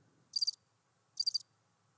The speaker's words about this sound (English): Crickets, like nothing. I don't hear anything.